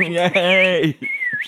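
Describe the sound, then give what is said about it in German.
A voice gives a sliding, hooting whoop, then a single clear whistle glides along and rises sharply at the end, imitating the whistling of a sitcom laugh-track audience. “Wir alle kennen das berühmte Pfeifen.”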